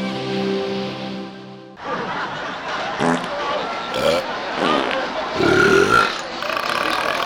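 A long, loud, droning belch fills the first couple of seconds, followed by a rough, noisy stretch with babble-like background sound and a few grunting bursts.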